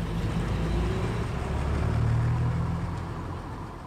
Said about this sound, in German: Das ist schon der dritte Bus, der mich nicht mitnimmt.